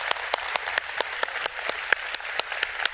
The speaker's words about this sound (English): Let's give the Lord a big hand clap today before we go. Thank you, Lord. Thank you, Lord.